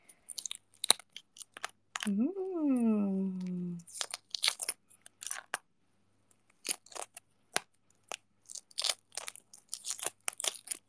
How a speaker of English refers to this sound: Wait, can you guys hear the egg peeling ASMR? Hold on. Hold on, I'm gonna turn off the AC again just in case, because there might be some noise cancellation.